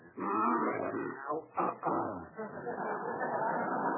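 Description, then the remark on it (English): A bear named Carmichael growls as it is urged to take cough syrup: a deep, rough rumble that runs for about four seconds, broken by a brief catch and a couple of short snarls before it rolls on steadily. “Now, here, Carmichael, be a good little bearsy-wearsy and open Ooh's mouth.”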